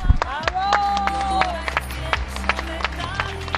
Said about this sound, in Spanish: un día primaveral, casi de verano y ya 5 minutos aplaudiendo en las calles de Sevilla, donde el ánimo sigue en todo lo alto.